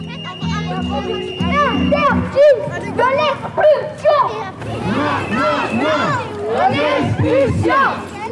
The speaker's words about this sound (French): En fond, vous entendez une manifestation qui a eu lieu dans le quartier des Minimes le 21 avril 2021.